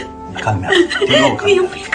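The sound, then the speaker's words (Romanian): A woman crying, with shaky, broken sobs and wavering, breathy whimpers that rise and fall over a couple of seconds. “Hai, gata, fii pe pace, dragă, te rog, nu plânge.”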